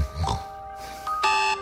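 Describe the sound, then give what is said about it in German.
An alarm clock goes off shortly before 5 in the morning with a short electronic chirp followed by a longer, bright, buzzy ring, fairly loud, with no voices. “Bis der Wecker rappelt.”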